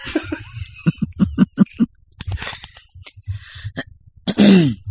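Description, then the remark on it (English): A girl gives a run of rough throat clearing and short coughs, fairly loud, in quick bursts, ending with a harsher, drawn-out hacking cough. “She's like dying. You just need a good cough.”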